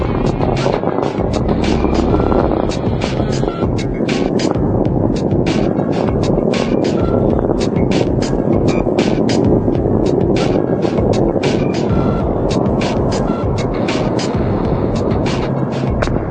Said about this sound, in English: Discovery's engines are throttling down as the orbiter passes through the area of maximum pressure on the vehicle.